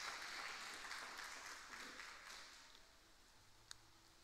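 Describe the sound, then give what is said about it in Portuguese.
A crowd at an evening prayer gathering claps together for the Lord in a steady wash of applause, dense at first and gradually thinning and softening toward the end, with no one speaking. “E nós Te aplaudimos, porque o Senhor é o convidado especial dessa noite.”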